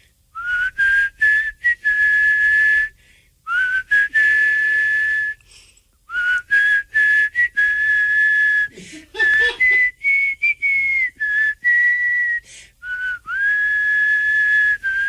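A person whistles a slow, sustained rock ballad melody to close a segment, with long held notes and gliding pitch changes broken by short pauses for breath, and no talking.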